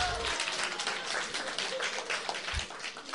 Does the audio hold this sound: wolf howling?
no